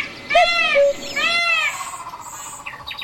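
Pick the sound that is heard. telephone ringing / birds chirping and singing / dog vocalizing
birds chirping and singing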